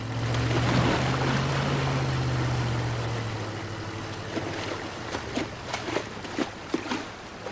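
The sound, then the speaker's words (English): A yacht's low motor drones steadily as it reverses through the water toward a swimmer, easing down after a few seconds, then a series of short knocking and splashing thuds follow at irregular intervals as it moves through the water. “Jake raises his eyebrows and reverses toward Michael.”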